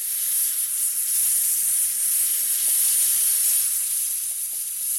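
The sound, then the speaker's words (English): A steady, loud hissing spray rushes continuously as a fan-driven machine blasts a giant spray of fine salt water particles down an aircraft runway in a marine cloud brightening test, with faint mechanical rumble underneath and no voices. “The machine let forth a giant spray of salt water particles down the aircraft runway.”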